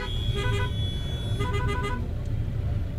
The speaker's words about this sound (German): Wir sitzen im Auto und versuchen uns durch die Massen von Menschen und Fahrzeugen zu bewegen. Der Weg von A nach B wird zur Geduldsprobe. Der Verkehr steht immer wieder still, blockiert von unzähligen Pilgern, die ihren Weg zum Ganges suchen.